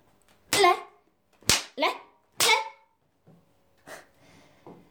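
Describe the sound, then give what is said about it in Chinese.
Three sharp, close whip lashes crack out about a second apart, each followed by a short pained vocal cry, with a few softer voiced sounds trailing at the end. “主人刚刚一共抽了你几下呀？”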